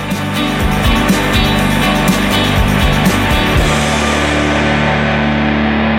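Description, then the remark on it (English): A thick, heavily distorted wall of sludge fills the end of a song, a loud murky sound whose low end drops away partway through as everything else fades out, leaving a dense buzzing wash that drones on to the end. “You've got the nice Sundays thing going over it, but you've also got the sludge so that you can have everything fade out until it's just sludge.”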